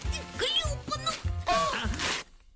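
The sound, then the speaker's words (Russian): A sharp, ripping tear of paper rises near the end, a short noisy burst over excited, overlapping voices and scuffling, then cuts off into quiet. “Ты что наделал? Порвал.”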